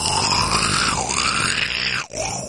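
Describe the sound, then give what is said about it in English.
A man's voice imitates the noise his stomach made when he woke up one morning, a long, loud, continuous guttural growl that wavers in pitch, then breaks briefly near the end before resuming. “I wake up and my stomach's like making this noise.”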